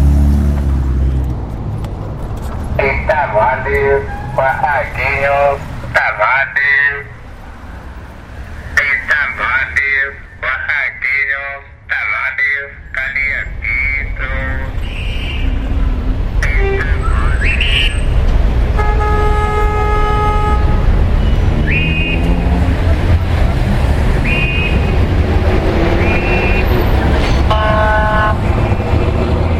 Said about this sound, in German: Im Verkehr wird mit harten Bandagen gekämpft. Die Hupi wird bedeutend häufiger eingesetzt als der Blinker und Fußgänger müssen, auch wenn sie grün haben, extrem aufpassen, zum Heil über die Strasse zu kommen.